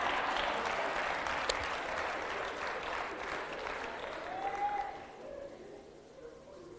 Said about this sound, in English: This thing of, yeah, no, thank you for clapping for me, my husband.